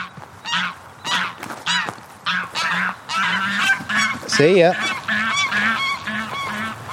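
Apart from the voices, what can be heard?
egyptian geese honking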